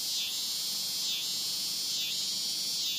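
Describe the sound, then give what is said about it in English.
A shrill, continuous drone of male cicadas calling to attract females fills the air, pulsing with a brief swell roughly once per second. It stays fairly steady and loud throughout, with no voices present. “female cicadas might be hearing this.”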